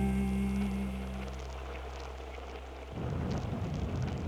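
Steady rain falls with a continuous hiss and patter, under a low droning rumble at first; after about three seconds the rumble stops and the rain sounds denser and rougher. No one speaks.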